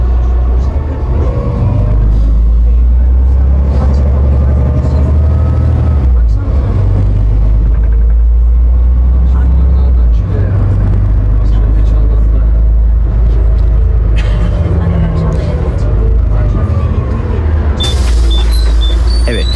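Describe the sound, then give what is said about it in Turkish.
A steady, heavy low engine rumble fills the inside of a moving city bus near the Yahya Efendi stop, with faint murmuring voices and occasional rattles over the continuous drone throughout. “Bu arada bu otobüsümüzde anons olmayabilir.”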